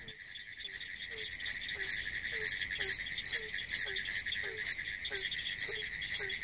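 A frog repeats a piercing, high-pitched squeaking call about twice per second, steady and loud, over a continuous shrill insect-like trill in the background.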